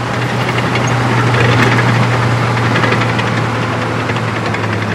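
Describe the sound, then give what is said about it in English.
A heavy bulldozer engine, turned on from the cab at a construction site, runs steadily at a loud idle, with a deep rumbling hum and rapid knocking throughout, and no voices. “Now, let me turn on the engine and see if we can get the tracks to move.”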